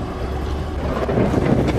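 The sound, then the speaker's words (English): A flat vehicle ferry carrying a truck with six giraffes crosses the Nile River with a steady, low engine rumble and gusty wind buffeting, holding at an even loudness throughout, with no voices. “As the flat vehicle ferry crosses the river, the giraffes peer through the vegetation surrounding the truck, and Melvin sticks his head right over the edge.”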